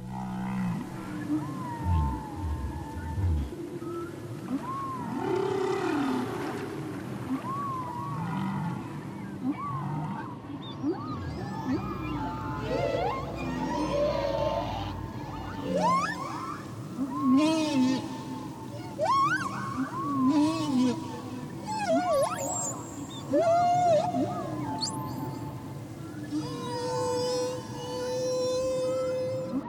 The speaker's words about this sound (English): I invite you to gently take a deep breath from your nose and exhale from your mouth as you listen to the sounds of the whales softly singing in the background.